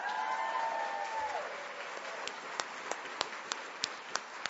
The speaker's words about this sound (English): I'm clapping too.